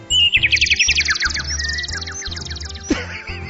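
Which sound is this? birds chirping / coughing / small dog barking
birds chirping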